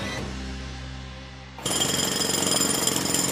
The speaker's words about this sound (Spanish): En el sótano, Arturo trabaja con el martillo ante la atenta mirada de Moscú.